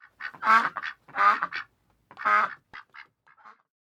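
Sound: duck quacking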